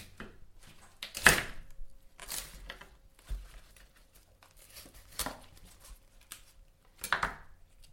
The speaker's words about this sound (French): Pour finir, on découpe la tige, une partie de la tige.